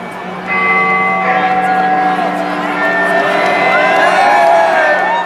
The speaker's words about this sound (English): The electronic version of Big Ben started the countdown.